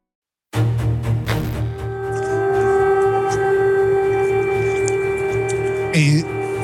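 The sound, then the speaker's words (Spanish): Air raid sirens wail across the centre of Kyiv, Ukraine, as martial law comes into force, in a long, steady, droning tone, loud and sustained from start to finish, with a brief dip in pitch near the end over a dull urban rumble. “Voy a dejar que suenen un poco las sirenas que podemos escuchar claramente aquí en el centro de la capital, en Kiev, en donde claramente ahora está entrando la ley marcial.”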